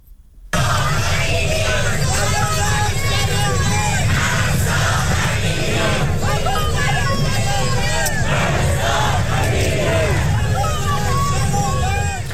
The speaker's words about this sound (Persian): سیدنی، ملبورن و بریزبین از شهرهای عمده استرالیا بودند که ایرانیان با حضور انبوه در آنها نام مهسا امینی را فریاد زدند.